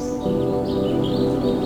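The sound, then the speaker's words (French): Birds chirp and warble lightly in pine and holm oak woods a few hundred metres from the ocean, their thin calls drifting over a steady, low tonal hum that fills the background throughout. No one speaks. “Des pinèdes, des chênes verts, orchestrés par le chant des oiseaux.”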